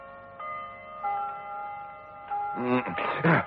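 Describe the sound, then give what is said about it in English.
A clock chimes the hour, several clear ringing tones struck one after another and sustaining, before a voice begins speaking near the end. “A clock was chiming the hour.”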